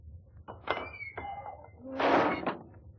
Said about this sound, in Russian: Чугунная дверь открывается от сильного толчка, и в башню стремительно входит человек в черном плаще и челме.